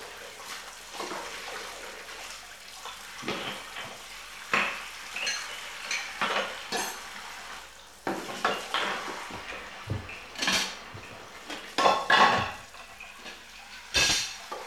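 Dishes and cutlery clatter and clink in a steady stream of sharp, irregular knocks, with running water swishing underneath; the washing-up is loud and brisk, and no one speaks.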